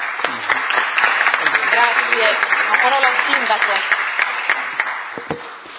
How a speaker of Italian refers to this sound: quindi un bravo a lei e un grandissimo bravo a te, un grandissimo applauso